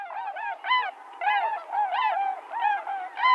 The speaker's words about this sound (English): Anyone whose eyes are drawn skyward as migrating birds pass over can be drawn into a dream of swans.